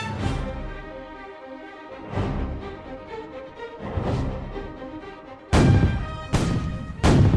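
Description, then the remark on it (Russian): Three cannons fire point-blank at massive iron-plated gates no more than 200 metres away, about six heavy booms at uneven intervals, each with a rumbling tail; the last three come louder and closer together. No voices. “Три пушки били прямой наводкой по воротам.”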